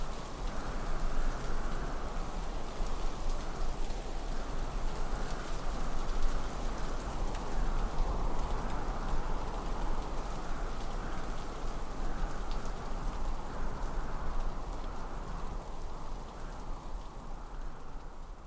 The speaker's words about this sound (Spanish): ¿Oyes? Allá afuera está lloviendo. ¿No sientes el golpear de la lluvia?